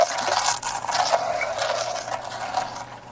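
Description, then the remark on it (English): A continuous whirring, scraping rush of friction as a globe is spun on its axis, steady for a few seconds with slight swells in intensity. “Okay, now we're gonna spin the globe and spin it.”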